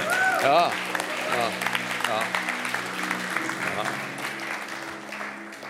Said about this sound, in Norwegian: Skal vi gi en skikkelig applaus for hverandre i dag? Ja.